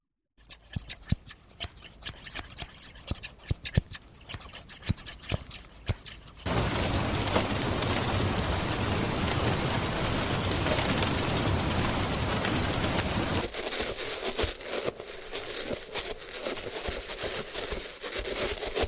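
Quick snips of hairdresser scissors, then a steady wash of heavy rain, followed by rapid metallic clanks and knocks of a hand in metal gloves tapping. No voices.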